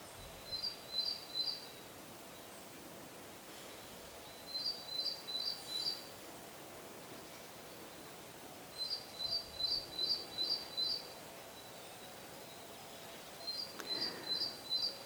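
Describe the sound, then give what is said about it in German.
Birds sing in a quiet forest, a single bird repeating short bursts of high, rapid chirping notes every few seconds over a soft, steady outdoor background. “Vielleicht nimmst du Vögel wahr oder andere Geräusche im Wald.”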